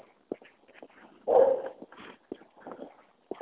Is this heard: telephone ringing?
no